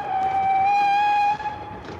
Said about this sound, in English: An incoming train clanked heavily above his head, coach after coach.